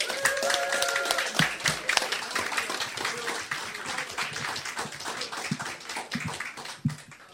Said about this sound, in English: Big round of applause. Please, a warm welcome and a big applause